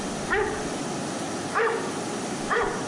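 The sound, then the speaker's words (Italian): Three sharp dog barks spaced about a second apart over a steady background hiss, moderately loud, with no talking; a dog in a studio. “È il cane. Sì, ma è in studio. I miei assistenti che abbaiano.”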